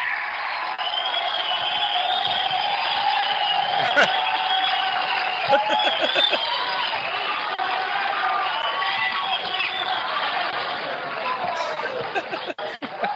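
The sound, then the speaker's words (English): A large crowd cheers and applauds continuously, a dense wash of clapping with whoops and scattered laughter throughout, loud and steady for the whole stretch. “Props, claps. Woo, crowds are wild.”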